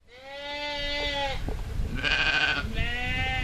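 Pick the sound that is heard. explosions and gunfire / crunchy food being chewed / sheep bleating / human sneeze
sheep bleating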